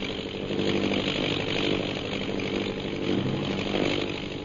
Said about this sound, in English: Say, that plane's coming down.